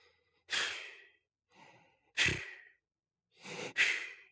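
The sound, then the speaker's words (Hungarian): A voice imitates an elderly woman snoring under a handkerchief laid over her face, with three breathy, puffing blows like someone blowing on hot soup that make the handkerchief flutter. The exhales are fairly loud, with short pauses between them and no talking. “és meglepődve látta, hogy valahányszor elhangzik ez a leves fújó zengés, ugyanakkor a néni zsebkendője meglebben, mint szélben a vitorla.”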